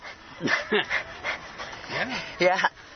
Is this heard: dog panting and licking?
yes